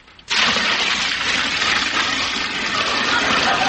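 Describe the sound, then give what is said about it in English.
Water gushes out of a shoe soaked while hiking through a lake in the woods, emptied in one sudden, steady pour, a loud hissing splash that starts abruptly and runs unbroken for several seconds with no voices. “I better empty the water out of my shoes.”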